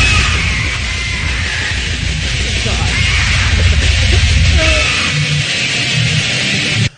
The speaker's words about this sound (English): That, you don't need to magnify a bird's squawk. I mean, it's really actually painful. It is painful.